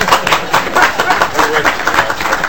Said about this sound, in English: If you could join me in clapping for Representative Poppy.